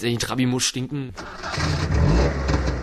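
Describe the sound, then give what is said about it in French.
A voice speaks briefly, then the small two-stroke engine of a Trabant car cranks and sputters to life, settling into a loud, rattling, uneven idle. “Sentir mauvais et surtout faire du bruit, la Trabi est en effet reconnaissable entre toutes les voitures à son moteur à explosion pétaradant.”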